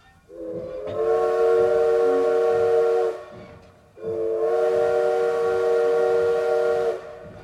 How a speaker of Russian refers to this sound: Резкий звон вокзального колокола и печальный паровозный гудок известили о приближении поезда, заставив всех вскочить с мест.